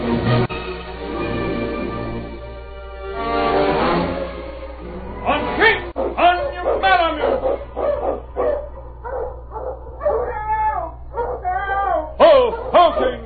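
A dog barks loudly in a rapid, excited series of sharp yelps and barks that carries on for several seconds, following a sustained, wavering tone.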